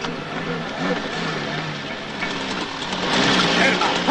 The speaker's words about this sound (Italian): Attenzione, un'auto! Presto, presto, nascondersi!